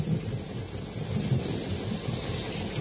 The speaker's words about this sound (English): Before Tarzan and his friends are able to cross the river, a jungle storm breaks.